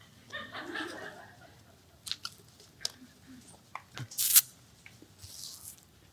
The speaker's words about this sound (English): And as you turn there, I'm going to take another drink of water.